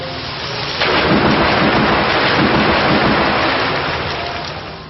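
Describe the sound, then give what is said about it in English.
A video game attack sound effect for the move Storm Rush: a loud, sudden rush of storm noise bursts in after a brief quieter lead-in, like crashing thunder mixed with heavy rain, sustained and roaring before tapering slightly at the end. “Ertana used Storm Rush.”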